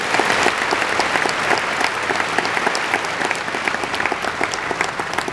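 Sustained audience applause, a dense steady wash of many hands clapping at a fairly loud, even level throughout, with no voices standing out.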